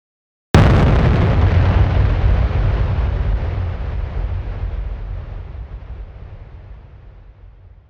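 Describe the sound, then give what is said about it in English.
A single huge explosion bursts in suddenly after a brief silence, then rumbles on with a deep, roaring low end that slowly fades over several seconds. No voices. “Most of you will be familiar with the Big Bang theory of cosmology.”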